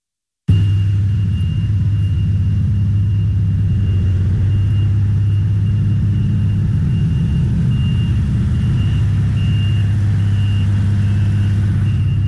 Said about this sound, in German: Es ist eben im Moment so, dass wir da keine Fahrleitung haben und darum müssen wir auch den Trolleybus mit dem Dieselbetrieb ausfahren lassen. Da hört man noch den Motor, wenn ein Strombus mit dem Diesel fährt.